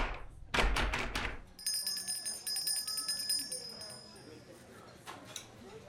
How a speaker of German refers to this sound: Achtung! Gleich wird die Tür vom Geschäft wieder aufgeschlossen.